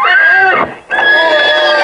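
A loud horse whinny in two bursts: a shrill, falling neigh, a brief pause, then a second sustained, quavering call.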